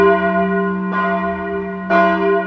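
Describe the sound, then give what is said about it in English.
A crystal bell hanging in a room of a castle rings out with two bright strikes about a second apart, each adding shimmering overtones above a steady, sustained ringing tone that hums on throughout. No voices are heard. “At last, they came to the room where the crystal bell was hanging.”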